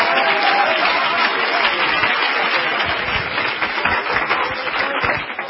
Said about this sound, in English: Why don't you clap your hands if you're looking forward to the coming of the Lord?